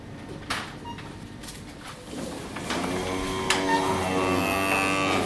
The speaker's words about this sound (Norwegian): Ja, nå er vi hos hønene. Vi har mellom 30 og 40 høner. De går ut under epletrærne.